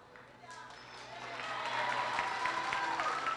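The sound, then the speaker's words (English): An audience breaks into applause for the team captains and senior girls, swelling over the first seconds, then holding as a steady, dense wash of clapping mixed with crowd voices and a few cheers. “At this time, will the captains and senior girls step up for a round of applause for all their hard work?”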